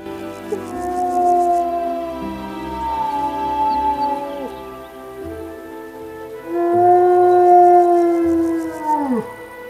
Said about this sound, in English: The wolf cubs listen as their mother returns to the same spot and calls out again.